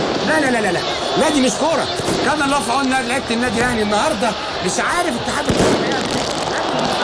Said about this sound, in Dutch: Je hoort joelende supporters in het Arabisch. Je hoort ook schoten. En die verslaggever die zegt, nee, wat is dit? Dit hoort niet bij het voetbal.